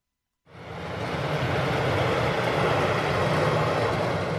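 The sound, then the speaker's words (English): A state snow plow truck clearing roads in southern Maine during a massive winter storm rumbles steadily, its heavy engine drone mixed with a broad scraping hiss that starts suddenly and holds loud and constant, with no voices. “State plow trucks were already out in force in southern Maine when Susan Falloon of the Maine Emergency Management Agency conducted her morning assessment of the massive weather system.”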